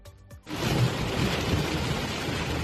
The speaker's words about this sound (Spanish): Un fenómeno meteorológico que deja fuertes tormentas, lluvias torrenciales y mucho viento y que, por desgracia, cada vez más a menudo en el Mediterráneo, lejos de la época habitual de la gota fría que es el verano.